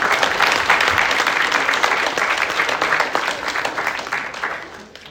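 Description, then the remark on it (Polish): An audience at a competition award ceremony applauds steadily for the second-place winner, a dense wash of many hands clapping at an even loudness that tapers off in the final second. “Bijemy brawa, zanim nie dojdzie po obu nagrodę.”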